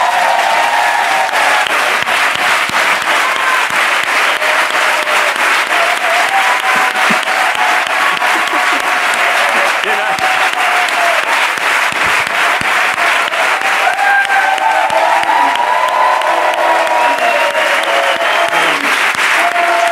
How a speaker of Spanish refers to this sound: ¿Sabes ese momento cuando te dan un Goya honorífico o un Oscar honorífico y que hay una ovación de pie y que la gente se levanta a aplaudirte de pie? No lo haríais ahora y sería como increíble. ¡Vamos todos!